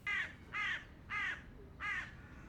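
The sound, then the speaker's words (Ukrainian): Four harsh, raspy crow caws ring out at a steady, evenly spaced rhythm, each loud and brief, over a low, constant rumble with no voices, as a flock of crows takes off from snowy ground. “Закривши сонце, зникали за лісом, викрикуючи своє невдоволення.”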